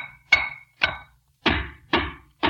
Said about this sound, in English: Well, do you have to make all that noise? Don't you realize somebody might be sleeping? At this time of day? Why, no, sis. Besides, I'm tapping these walls for secret panels.